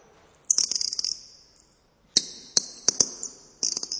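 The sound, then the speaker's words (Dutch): High, shrill chirping in three bursts, each a rapid warbling trill with sharp clicks, loud with brief pauses between, from a handheld mechanical toy bird whistling, made to sing by a child using both hands. “Jij kan het vogeltje laten zingen.”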